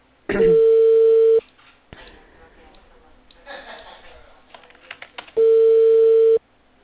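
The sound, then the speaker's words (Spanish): A mobile phone call tone sounds twice as a loud, steady beep about a second long each, separated by a few seconds of quiet line noise and faint background rustling, on a call that is then transferred to voicemail. “pasé siempre el celular. A ver, dame un toque.”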